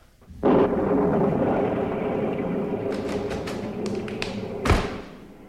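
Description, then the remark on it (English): A storm sound effect: a sudden rumbling burst opens into a steady roar of rain, with sharp crackling snaps in the latter half and a heavier crash just before it fades. “Still more quickies. The storm.”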